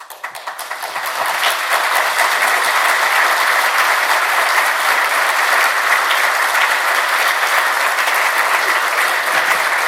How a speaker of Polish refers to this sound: Rozumiem, że te oklaski to nie dla nas, tylko dla Pana Boga.